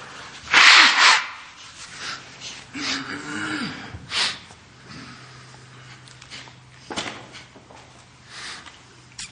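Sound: coughing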